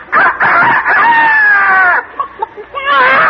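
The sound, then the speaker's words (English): A woman performer who does imitations voices a bird with a loud, rooster-like crowing call, a long wavering squawk followed by short clucking bursts and another rising cry. “This is an imitation of a bird.”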